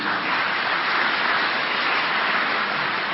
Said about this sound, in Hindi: अच्छा बाप दादा तो जन्म की मुबारक के साथ आपको बधाई भी देते हैं, पदम पदम गुणा बधाइयां हो, बधाइयां हो, बधाइयां हो। फिर ताली बजाओ भाई।